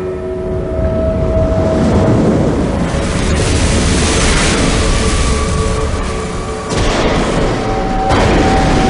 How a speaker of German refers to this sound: Mitten auf dem See brach plötzlich ein gewaltiger Sturm los und das Boot drohte vollzulaufen.